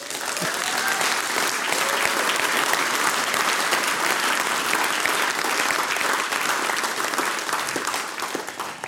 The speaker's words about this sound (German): Fesch Applaus für die ….